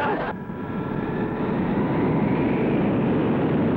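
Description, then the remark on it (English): A bus engine, stuck in mud, roars continuously at high revs, a loud, rumbling drone with a steady tone that swells slightly louder and holds without letting up. “Listen to him erasing that engine. Yeah, but the wheels must be spinning in the mud.”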